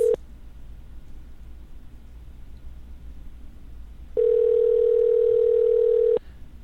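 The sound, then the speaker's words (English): A phone's ringback tone while a call goes through: the tail of one ring at the very start, a long quiet pause, then a steady two-second electronic ring, clear, with no talking. “Yes, you'll have to, if she doesn't answer, we'll have to get tidbits on the children.”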